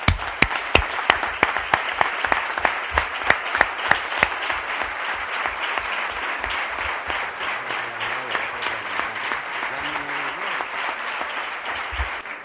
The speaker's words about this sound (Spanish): A los nuevos, a los que ya habéis estado, tenéis más experiencia, pero a todos de verdad quiero daros mi aplauso y quiero que todos sepáis que tendemos la mano para trabajar con vosotros.